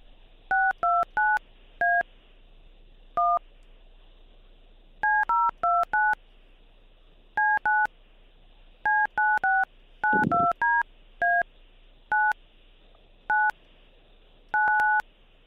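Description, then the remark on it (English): Touch-tone telephone dialing as a call is put through: quick clusters of short electronic dual-pitched beeps separated by brief pauses, with a single click partway through and a faint steady hum underneath. No one speaks. “when you speak to him on the phone, just make sure you're nice and loud and clear”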